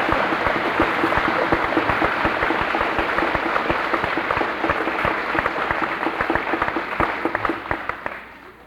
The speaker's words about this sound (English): Let's give our eighth grade hand a big round of applause.